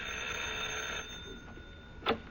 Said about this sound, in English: I'll ring the doorbell.